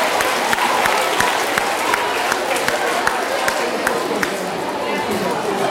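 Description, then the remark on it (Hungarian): Steady audience applause at a school prize-giving for a school team's representative being called up, a dense wash of many hands clapping at an even loudness, with sharper individual claps poking through and faint crowd murmur beneath. “Nekik is jár a taps.”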